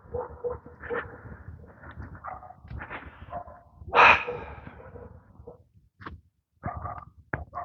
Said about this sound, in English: You can hear the dog. I'm sure you can hear the dog. Woof, woof. Arf, arf.